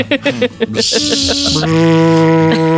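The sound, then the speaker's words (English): A voice mimics a power drill: a few short revving bursts, then a sustained nasal buzzing whine that shifts pitch near the end, loud, with no other sounds. “Wait, this, is that a good drill noise?”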